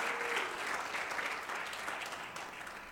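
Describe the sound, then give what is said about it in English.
An audience claps their hands to the Lord in a dense, steady burst of applause, continuing evenly throughout with no one speaking over it. “Clap your hands to the Lord and you may be seated.”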